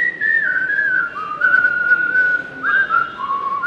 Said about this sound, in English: Is there a way that the Whistling Association sees as the right way to whistle?